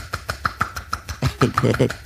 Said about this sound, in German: Okay, Bildbeschreibung wäre jetzt quasi, du entspannst deine Finger und schüttelst deine Hand so sehr, dass die Finger an den Handballen schlagen.